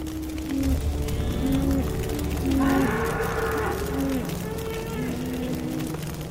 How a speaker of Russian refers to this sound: Переходя из одной части леса в другую, стадо, состоявшее из коз, буйволов и коров, наконец забрело в заросли тростника. В это время в лесу по соседству начался пожар, и животные, измученные жаждой от приближающегося пламени, стали жалобно мычать.